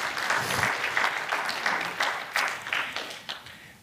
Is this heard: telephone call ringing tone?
no